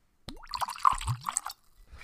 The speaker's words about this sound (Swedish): Vi häller upp en liten punch på det tycker jag. Jag har punch. Det är sånt man ska ha innanför västen när man går ut. Ska vi få med ljudet.